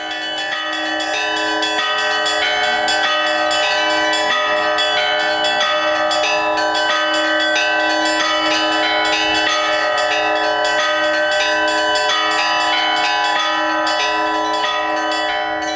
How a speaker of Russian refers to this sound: Уникальность этого события в том, что звучит старинная колокольня Александра Невской лавры. Мы услышим звоны, которые, может быть, забыты и возрождены сейчас вот этой группой энтузиастов. Звоны, которые наши предки слушали.